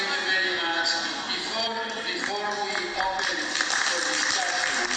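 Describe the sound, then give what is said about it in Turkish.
Steady applause from an audience fills the whole stretch, a dense even patter of many hands clapping at constant loudness, with a voice speaking over it. “Bizlerde yeni alkışlıyor. Sanki alkışlayınca şey olmuş oluyor, evrim haklı çıkmış oluyor.”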